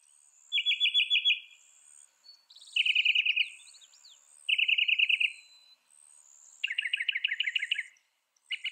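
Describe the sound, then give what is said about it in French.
A mockingbird sings clear, rapid trilled phrases, each burst of repeated notes lasting about a second before pausing and switching to a new pattern, with faint higher chirps between them. “Une étude de 1987 a classé des milliers de chants de seulement 4 oiseaux moqueurs.”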